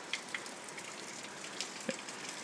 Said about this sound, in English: I'm awake, because it's kind of wild out there. You might be able to hear the rain.